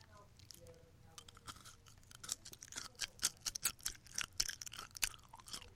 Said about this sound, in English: Could you hear me chewing? Yes, I could.